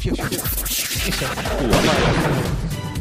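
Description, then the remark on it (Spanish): A dense volley of gunshot sound effects, sharp cracks firing in quick succession throughout, loud with a noisy, crackling wash between the shots. “Parece un tiro al plato esto, ¿eh?”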